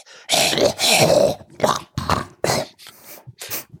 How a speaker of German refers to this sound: Sie lag da und atmete röchelnd.